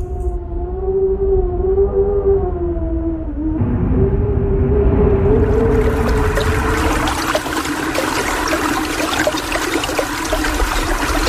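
A steady, wavering howl of wind whistles for a few seconds, then gives way to a loud, broad rushing wash that keeps going, full, with no voices.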